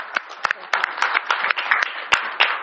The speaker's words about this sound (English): So can we have a big clap for him?